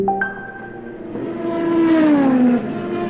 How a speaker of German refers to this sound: Klingt wie bei der Formel 1 und offenbar glauben auch manche Autobesitzer, dass sie eigentlich Rennfahrer sind.